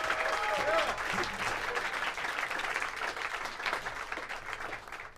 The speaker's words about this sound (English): I think you may hear your claps. Actually, no, I guess it's just streamed, so you're not going to hear them.